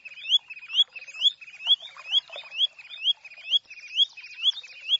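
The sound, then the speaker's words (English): A spotted sandpiper calls in a steady, unbroken series of thin, high, rising whistled notes, about two per second, sounding clear, with no other sounds around it. “you'll see that the calling bird was indeed a spotted sandpiper”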